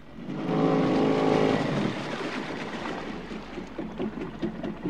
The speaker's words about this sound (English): Eddie heads across the river in his smaller boat.